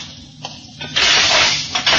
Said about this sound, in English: Then I'll open the hatch.